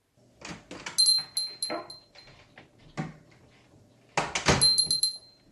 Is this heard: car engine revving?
no